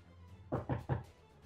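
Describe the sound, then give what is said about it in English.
Three quick, evenly spaced knocks on wood, fairly loud, with a dull low thud to each, then quiet. “That was me knocking.”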